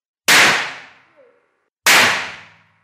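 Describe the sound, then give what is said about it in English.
Two sharp, loud cracking bangs about a second and a half apart as colourless, oily nitroglycerine is struck with a hammer and detonates through a supersonic shockwave, each a sudden explosive snap that rings out and fades over roughly half a second. “What happened then was a process called detonation, and it proceeds through a shockwave.”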